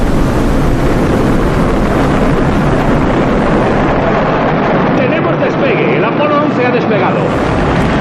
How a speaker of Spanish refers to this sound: Estamos viendo el cohete envuelto en columnas de humo ahora mismo. Parece que le cuesta iniciar un poco el ascenso. Se está inclinando un poco en dirección contraria a la torre que lo sujeta.